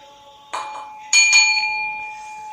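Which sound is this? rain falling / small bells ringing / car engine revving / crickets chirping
small bells ringing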